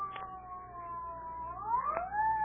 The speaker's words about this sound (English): What's that, Daddy? Oh, I think it's the ambulance.